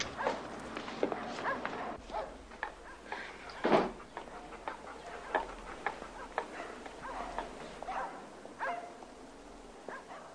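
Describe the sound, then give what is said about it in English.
A large Doberman barks repeatedly in irregular bursts, with one especially loud bark near the middle, against a steady background hum and no talking. “Nobody calls them Doberman Pinschers anymore. Just Doberman or Dobe.”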